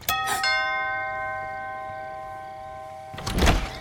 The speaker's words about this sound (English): Did you know that your doorbell rings outside? Oh, sure. That way people will know it's working. Otherwise, you push the button and it rings somewhere way back in the house